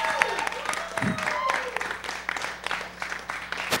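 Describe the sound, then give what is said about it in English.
Audience applause prompted by a clap sign: many hands clapping in a dense, steady patter for the whole stretch, with scattered voices and a few whoops mixed into the crowd noise. “See the clap sign.”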